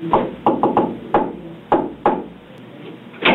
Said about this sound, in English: Were you knocking? Yes, sir. Yes.